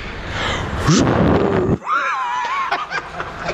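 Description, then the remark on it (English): A person in a parking garage imitates a jet engine into a microphone with a loud, rushing breathy roar, then a wavering high whine that falls off into a chuckle. No words are spoken. “You know how a jet sound? Hold on. Now do it into the microphone, though.”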